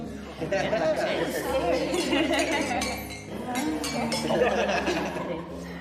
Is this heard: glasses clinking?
yes